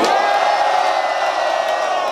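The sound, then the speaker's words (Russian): A large crowd cheers, whoops and shouts without pause, a dense, loud wall of voices that holds steady throughout the two seconds. The crowd is at a rap battle in St. Petersburg, making noise at the host's call. “Питер, сделайте максимум шума!”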